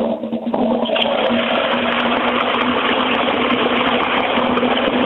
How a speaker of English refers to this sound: You can't argue with that, can you? I mean, it may be wasting huge amounts of water, but it certainly makes a noise and it is certainly a real flush.